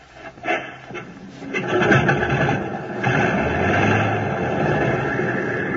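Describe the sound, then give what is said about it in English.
An aircraft's number one piston engine cranks with a few uneven bursts, then catches and builds into a steady, loud rumbling roar that holds to the end. No voices are heard. “Select the number one engine on, sir. Well, here goes.”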